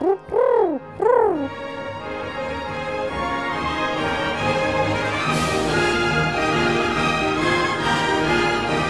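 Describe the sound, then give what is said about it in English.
Two short, rising-and-falling pigeon coos sound at the start, then sustained orchestral music swells in and carries on steadily to the end. “But Dvořák was happiest at home, in his country house in Bohemia, where he liked to raise pigeons.”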